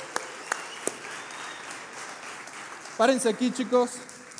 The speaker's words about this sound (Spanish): les voy a pedir si me ayudan a darles un aplauso para que suban aquí al escenario.